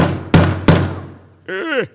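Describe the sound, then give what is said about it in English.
Two sharp blows of a big hammer land about a third of a second apart, each with a ringing decay, followed by a brief spoken voice. “The hammer, right? This is noisy.”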